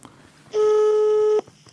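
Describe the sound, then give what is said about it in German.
A single steady telephone ringback tone of an outgoing call sounds for just under a second, clear and fairly loud, over a faint background hiss with no one talking. “Das nächste Freizeichen. Es klingelt.”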